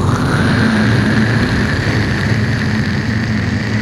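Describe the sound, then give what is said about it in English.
A rocket's stage 2 engines fire with a loud, steady roar, a deep rumbling low end and a constant hissing rush above, holding an even intensity throughout with no voices. “I want you to prepare to fire stage 2 engines.”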